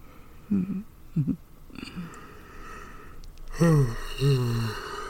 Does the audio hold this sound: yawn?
yes